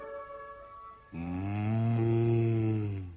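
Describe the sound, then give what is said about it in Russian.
A cow across a river, in the distance, gives one long, steady low moo lasting about two seconds, rich and droning, preceded by a brief quieter bleat-like tone, with no voices present. “Вздохнула корова за рекой.”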